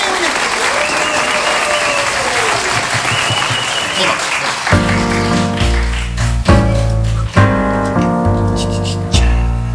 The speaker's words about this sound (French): Je vous demande d'accueillir et d'applaudir bien fort